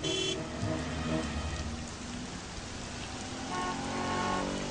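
Steady rain pours down for the whole stretch, a dense, even hiss of drops with no pauses. It sounds fairly loud, with a few faint tonal notes at the very beginning.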